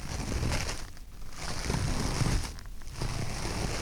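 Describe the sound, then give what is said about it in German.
Two sheets of toilet paper rubbed between the hands to mimic footsteps in snow: a steady, dense crunching rustle that briefly eases twice, moderately loud, with no voices. “Für die Schritte im Schnee braucht ihr eine Rolle Klopapier. Reißt zwei Blätter ab und reibt sie zwischen euren Händen.”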